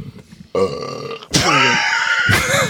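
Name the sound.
burp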